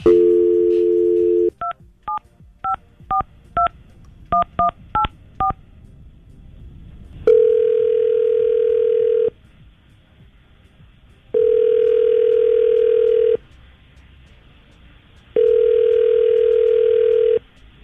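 A steady dial tone cuts off, followed by a quick series of touch-tone beeps in two bursts, then three long, even ringback tones separated by silent pauses, as a call is placed by Tampa Bay's Morning Crew on radio station 99.5 QIK.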